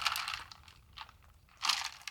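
Breathy slurping as someone sips hot coffee from a cup, with a few airy sips separated by short quiet pauses and no talking.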